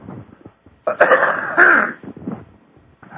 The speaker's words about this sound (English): I'll bring water. I won't be coughing in your ear. I think that's very rude, and I apologize.